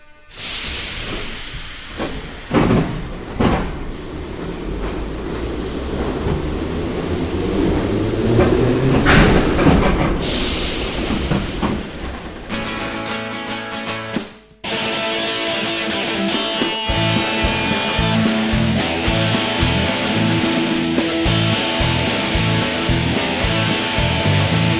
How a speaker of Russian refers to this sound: Уважаемые пассажиры, будьте осторожны, поезд отправляется.